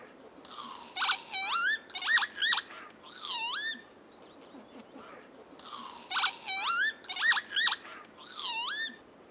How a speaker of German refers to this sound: Das ist der Kiebitz. Und zwar unser Kiebitz.